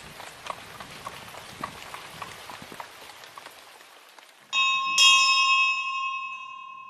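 At night, heavy rain pours and a horse-drawn cab's hooves clop, then the doorbell of Blackmoor Castle rings out in two bright, loud chimes whose ringing tone lingers and slowly fades away.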